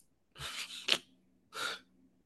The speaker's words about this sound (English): The gasp of Eureka.